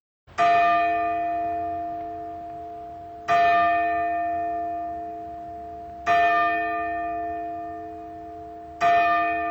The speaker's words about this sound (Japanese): お聞きいただいているのは札幌にある時計台の鐘の音です。札幌のシンボルともなっているこの時計台は、120年間にわたって今なお札幌の人々に時を告げています。